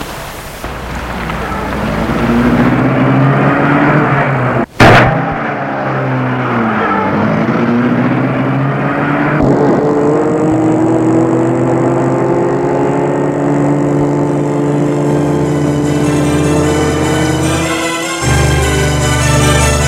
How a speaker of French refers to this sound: Il entre dans la voiture et dit au chauffeur, J'entre chez moi. Bien, monsieur. Le chauffeur met la voiture en route.